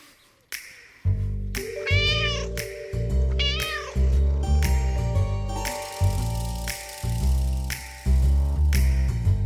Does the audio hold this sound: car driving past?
no